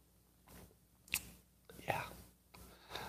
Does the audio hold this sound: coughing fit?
no